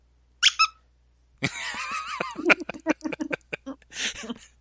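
A Chewbacca squeaky toy being squeezed: two quick, high-pitched squeaks, a brief pause, then a longer run of rapid, uneven squeaks and rubbery squeals, fairly loud.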